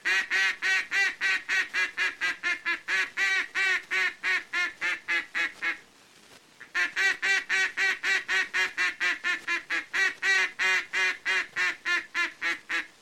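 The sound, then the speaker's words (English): A duck call blows a long run of full-voiced, nasal mallard quacks, the kind ducks make on water when content, in a steady, quick rhythm, loud, with one brief pause midway and no talking. “Note carefully the full-voiced quacks of this call that ducks always make on water when they're happy and neighborly, like this.”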